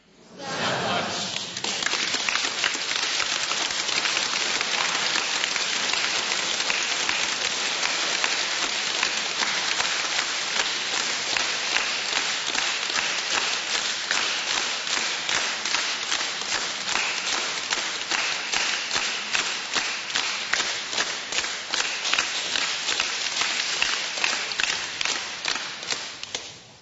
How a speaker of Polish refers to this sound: Trochę się chłodniej zrobiło. Jak się klaszcze, to się chłodniej robi.